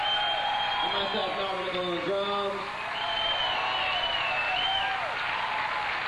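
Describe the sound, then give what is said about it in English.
A steady wash of audience applause for the band's keyboard, guitar and bass players fills the whole stretch, loud and sustained, with a voice calling out over the clapping near the start and middle. “Round of applause for my fellas.”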